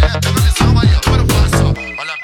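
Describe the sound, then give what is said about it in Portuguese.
A loud musical phone ringtone plays for an incoming call, a quick repeating melodic pattern of bright tones with a steady rhythm, then breaks off into a thin sustained beep. “Alguém ligou pra mim.”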